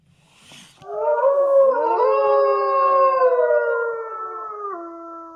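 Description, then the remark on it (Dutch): Several wolves howl together in long, overlapping, gliding tones that rise and waver, a sustained chorus lasting several seconds after a brief noisy start, fairly loud and with no talking. “Waar of niet waar, wolven huilen alleen met volle maan.”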